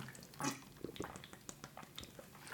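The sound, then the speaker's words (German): Quiet sips of bottled mineral water: a few short wet slurps and swallowing clicks in an irregular rhythm, with a louder gulp at the end and no talking. “Es ist ein gutes Wasser, es schmeckt lecker.”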